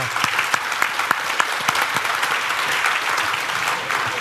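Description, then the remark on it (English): An audience applauds steadily, a dense wash of many hands clapping at even loudness, with a few sharper individual claps standing out early on and no voices rising above it. “And you got a week applause when you said 34 years.”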